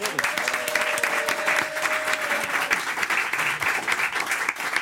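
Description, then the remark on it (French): Warm audience applause welcomes author Christelle Bardet, whose book is about her mother's Alzheimer's disease. A dense, steady patter of many hands clapping at an even loudness fills the whole stretch, with a faint tonal hum briefly beneath it and no one speaking. “Applaudissez chaleureusement Christelle Bardet.”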